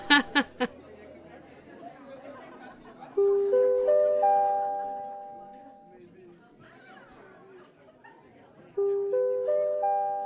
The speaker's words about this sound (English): There's the bell.